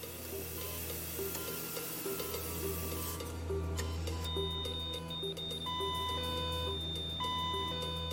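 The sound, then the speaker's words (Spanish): A medical monitor alarm, sounding when a child stopped breathing, beeps with steady, high electronic tones that start partway through and repeat in intermittent bursts over a constant low mechanical hum. No one speaks. “Pero cuando el niño dejó de respirar, la alarma médica habló por él.”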